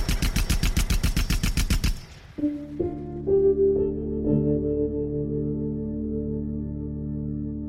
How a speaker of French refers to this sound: Trois hommes sont juchés dessus. Ils sont armés. Et soudain, ils tirent.